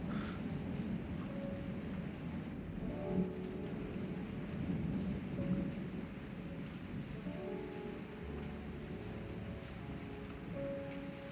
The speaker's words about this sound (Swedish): Vi drar ut i syraregnet. För satans väder.